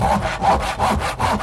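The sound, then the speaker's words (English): A carpenter saws through wood with a hand saw while fixing a kitchen, in steady back-and-forth strokes, about four rasping passes in a regular rhythm, loud and gritty with no voices. “Of course, the carpenter fixed the kitchen quite easily.”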